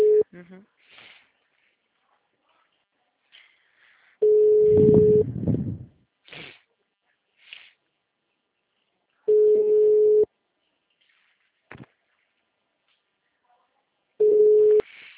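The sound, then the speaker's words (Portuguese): A telephone line tone, from a call placed again to get updated information and ending at a voicemail message, sounds in steady one-second beeps, repeating about every five seconds at a low, even pitch, with faint scattered voices and small noises in the gaps. “Como já começou uma nova semana, inclusive eu já tô ligando de novo para estar mais atualizado.”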